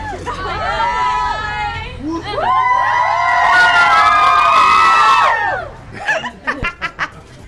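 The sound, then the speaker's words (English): An audience erupts in high-pitched screaming and cheering as a performer is presented to them and gestures for them to get louder, many voices swelling together for several seconds, then breaking into a few short bursts of laughter and chatter near the end. “What happened there to make that scream occur?”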